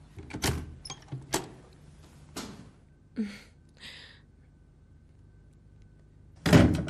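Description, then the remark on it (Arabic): A door is opened: a few sharp clicks and knocks from the latch and handle, a short scraping swing, then a louder burst of rustling movement at the end. “يلا افتحي الباب.”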